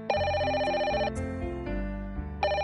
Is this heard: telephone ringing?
yes